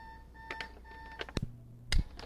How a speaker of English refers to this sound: We've lost our train of thought. When that alarm went off, uh-huh.